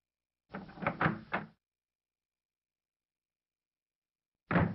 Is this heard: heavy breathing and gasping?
no